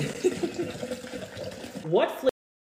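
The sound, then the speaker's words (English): Water pours steadily into a cup for a couple of seconds as someone makes their second water of the day, its pitch rising as the vessel fills, then it cuts off abruptly into silence. “Let's make my second water of the day.”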